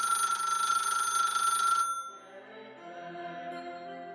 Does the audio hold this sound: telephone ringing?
yes